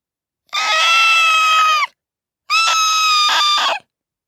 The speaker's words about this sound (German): schrie ein Vogel draußen in den Tannen.